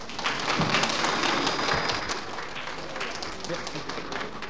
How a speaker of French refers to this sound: un excellent chanteur, une voix d'or, une voix très chaude, que je vous demanderai d'applaudir comme il se doit. Il s'agit de ….